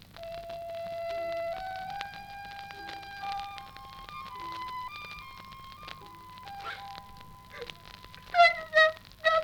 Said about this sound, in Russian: Пролетал шмель.